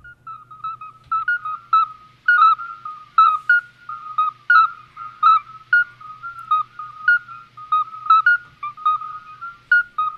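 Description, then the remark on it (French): A small toad's whistling song, likened to the call of a scops owl: a steady series of clear, mid-pitched whistled notes repeating in quick rhythmic bursts, fairly loud and unbroken, with a low hum underneath and no talking. “On n'imagine pas qu'un crapaud puisse avoir un si joli chant.”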